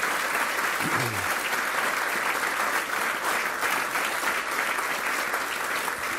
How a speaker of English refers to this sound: So if we could give a great round of applause to the Vice President, Karen Pence.